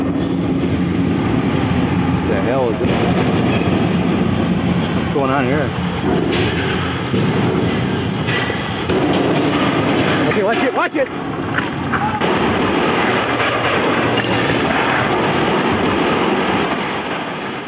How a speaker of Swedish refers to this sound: Tre arbetare strök med, men jävlar vad det knakar och brakar i den här kranen innan den kollapsar. Aj då.